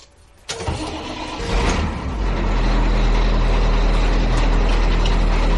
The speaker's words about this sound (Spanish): Pero igual no es el autobús más moderno que hemos podido encontrar, pero bueno, es el que había.